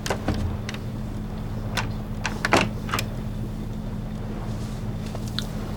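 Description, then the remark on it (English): A bedroom door lock clicks shut with a sharp clunk as a man locks the door, surrounded by a few smaller clicks and knocks, all over a steady low engine-like hum. “locks the door on them both.”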